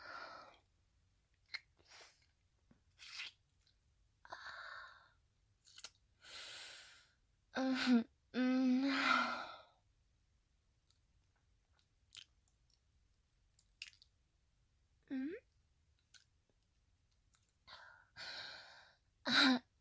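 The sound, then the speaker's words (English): Wet licking and mouth sounds, licking water off skin, come in short intermittent bursts, mixed with soft breathy sighs and a couple of low voiced hums, with quiet pauses between them. “You like it when I lick it right off you?”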